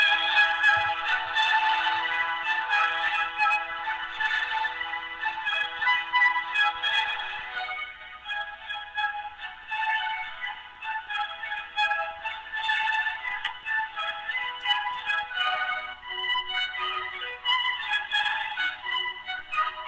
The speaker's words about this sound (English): Please enjoy this Verizon ringback tone while your party is reached.